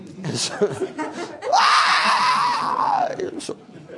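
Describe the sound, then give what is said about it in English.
A man lets out a loud, drawn-out mock scream lasting about two seconds, its pitch arching up and falling away, miming being cast into outer darkness, with brief chuckling and vocal noises before and after. “That was me miming being cast into outer darkness with screaming.”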